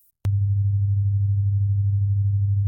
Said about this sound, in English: I'm going to play you a 100 hertz sound, meaning 100 vibrations per second. Those waves reaching your ear right now, 12 feet long.